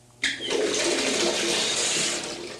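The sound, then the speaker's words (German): Water gushes from a tap into a bathtub, starting abruptly and pouring in a steady, loud rush for a couple of seconds with no one speaking. “Wenn ich jetzt einen Schuss von dem Kalten dazu nehmen könnte?”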